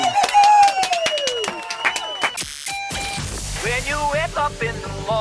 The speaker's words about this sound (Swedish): Härligt, du får en applåd till